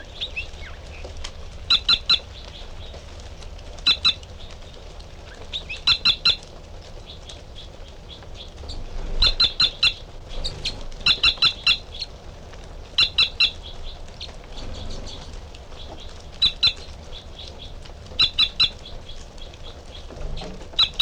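A male bird sings short, high, buzzy song phrases, repeated roughly every one to two seconds over a steady background hiss, with sharp clicky chips mixed in and no talking.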